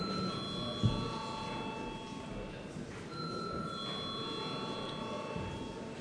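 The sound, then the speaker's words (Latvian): A parliament chamber bell rings for a vote on a bill amending the pharmacy law, steadily with a bright, sustained electric tone, cutting off briefly about halfway through before resuming, over a low murmur of background noise. “Paldies, lūdzu zvanu.”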